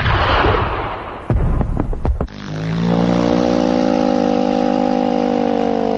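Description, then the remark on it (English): A loud, roaring gunshot blast, followed by a quick series of sharp cracks, then a steady, low, tonal drone that holds to the end. No one speaks. “Good shot, Archibald.”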